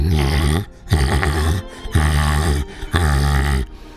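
A dog growls and barks in four loud, drawn-out bursts, each about half a second long, separated by brief pauses, with no talking.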